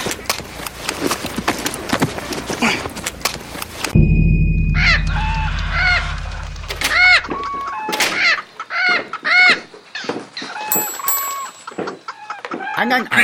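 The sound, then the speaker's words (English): A flock of chickens clucking and squawking loudly in short, repeated bursts, following a brief stretch of rumbling noise at the start. “I would purchase one of your fowl birds.”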